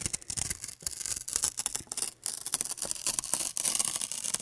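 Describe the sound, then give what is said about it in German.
Paper being slowly torn as a trigger sound in an anti-stress installation by artist Anna Witt, a steady crackling rasp with dense, uneven little snaps and rips running for several seconds, fairly quiet, with no voices. “Langsames Zerreißen von Papier, was man gerne Trigger-Sound nennt, kursiert millionenfach im Netz, aber hier perfektioniert von der Künstlerin Anna Witt als eine Art Anti-Stress-Installation.”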